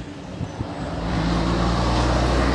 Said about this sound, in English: Alright, moving before the truck comes, because that guy will run me over and I'll be dead.